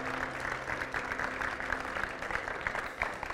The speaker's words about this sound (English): Thank You, Lord, for such a great salvation. Oh, let's applaud God for giving us Jesus and giving us salvation.